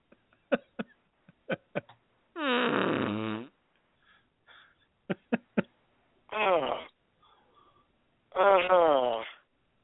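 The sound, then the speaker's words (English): Several short popping clicks lead into three loud, drawn-out buzzy fart noises played as a sound effect, with a wavering, sputtering pitch, each about a second long and separated by brief quiet gaps. “I play another fart noise.”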